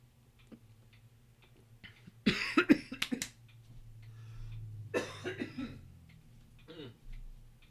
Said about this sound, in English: Apparently I'm going to cough in the microphone just like I did last time.